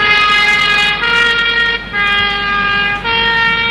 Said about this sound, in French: Mais que se passe-t-il ? Une ambulance ?